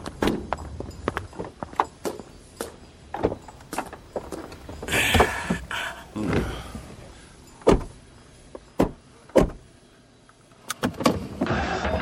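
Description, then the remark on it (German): Car sounds from a car in India on a hot day, with a series of sharp clicks and clunks over a low rumble and a brief whirring burst like a power window moving, with no one talking. “Entschuldigen Sie, hat der Wagen eine Klimaanlage?”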